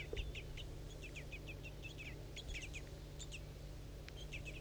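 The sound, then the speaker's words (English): Repeated high, thin bird chirps in quick, uneven bursts, overlapping as if from several birds, over a steady low hum; the bird tagged 4-3 is calling while feeding occurs. No one speaks. “That was 4-3's calling now, good.”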